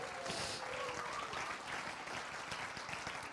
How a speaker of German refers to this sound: Ihr dürft stolz sein. Können wir den Applaus geben? Jawohl.